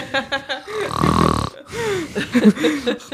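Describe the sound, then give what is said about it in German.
A person fakes a loud, rasping snore, one drawn-out snort lasting under a second, framed by short vocal noises before and after. “Warte mal, ich bin kurz eingeschlafen.”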